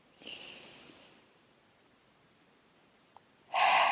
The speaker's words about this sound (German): Einmal tief atmen.